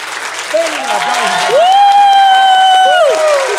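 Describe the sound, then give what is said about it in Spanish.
A crowd claps steadily throughout for a doctor and life coach, while voices let out long, rising whoops and cheers over the applause, loud, building to a sustained shout in the middle. “Un aplauso a Samar Jordi.”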